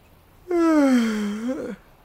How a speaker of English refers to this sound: I'm yawning because I'm tired. Tired of running after Coco.